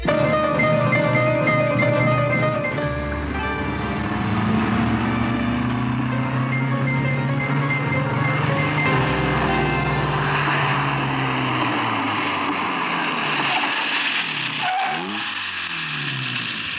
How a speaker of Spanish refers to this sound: El lujoso auto deportivo de Gabriel Cartaya se detiene ante la misma puerta de entrada de la rica vivienda de don Marcos Figueroa.